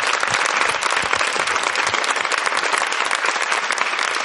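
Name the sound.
audience applause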